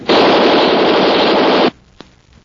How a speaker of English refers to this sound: That machine gun won't do you any good, Race.